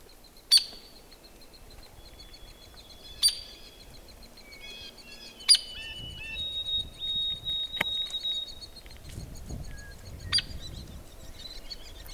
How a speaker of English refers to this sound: There. Feeding the babies. And at this time of the season, that's kind of the woodpecker we would expect, just because they're fairly early in their nesting. So these hairy woodpeckers have kind of noisy babies now.